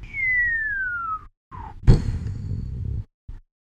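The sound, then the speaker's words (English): A person whistles a long, steadily falling tone like a dropping bomb while miming a bomb drop with one hand, then blurts a breathy mouth-made explosion that rumbles for about a second as he opens his fingers wide down by his feet. Fairly loud, with no speech. “and then makes a whistling noise as he mimes a bomb drop with one hand.”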